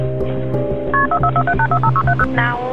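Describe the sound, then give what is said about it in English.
Telephone keypad dialing 911 from a home in Milledgeville, Georgia, to call for paramedics: a quick run of about a dozen short, evenly spaced touch-tone beeps over a steady low droning background, with no voices. “Only moments earlier, Clark had called 911”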